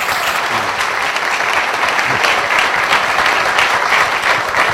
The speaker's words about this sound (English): Raise your hands for all the veterans, and let's give you all a round of applause.